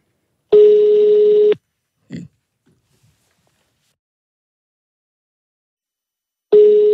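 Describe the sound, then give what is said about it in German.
A telephone call from the Ö3-Wecker radio show rings out on the line before being answered: two steady, buzzy mid-pitched tones about a second long, separated by a long silent pause, with a brief faint blip in between. “Ja, jetzt müsst ihr halt nur noch abheben, ne?”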